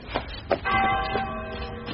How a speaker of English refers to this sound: I'm not making it do anything, stupid. It must be magic. It's from the school. It's the old bell.